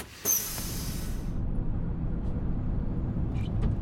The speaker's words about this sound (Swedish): Sen satte hon sig bakom det som hon kallar hennes trippeläker, vilket i det här fallet betyder ratten. Tändningen är på, motorn brummar.